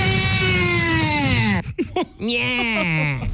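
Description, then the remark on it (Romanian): A man lets out a long, loud, raw scream whose pitch slowly sinks, breaks into a few ragged gasps, then surges into a second sustained yell that glides downward. “Băi, să știi că a fost un țipăt bun.”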